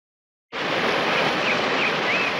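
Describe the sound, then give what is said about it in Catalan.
A steady, dense roar of water from a waterfall about 50 metres high dropping vertically onto a large pool of calm water surges in abruptly and holds at a constant loud level, with a few faint high chirps or whistles peeking through the rush. “Un salt d'aigua d'uns 50 metres cau en vertical sobre una gran bassa d'aigües tranquil·les.”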